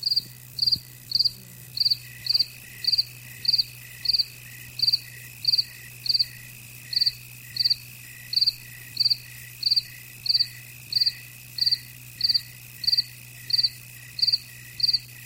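Crickets chirp in a steady, regular rhythm, each high-pitched trill repeating about once a second, clear over a faint low background hum, with no voices.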